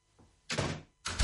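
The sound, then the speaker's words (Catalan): A door is pushed shut, with a first broad clack followed a moment later by a heavier, booming thud as it closes. It sounds fairly loud, with no voices. “Tanca la porta al coronavirus i queda't a casa.”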